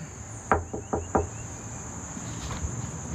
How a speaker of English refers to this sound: He's now 90 and living in Virginia, so I knocked on his door.